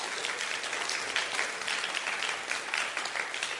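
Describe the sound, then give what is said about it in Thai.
An audience claps together in praise of God in a steady, dense burst of applause that holds at an even loudness for a few seconds, a crackling wash of many hands with no voices standing out. “สรรเสริญพระเจ้าตบมือพระเจ้าดีไหมครับ”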